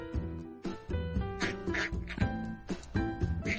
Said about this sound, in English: Quack, quack.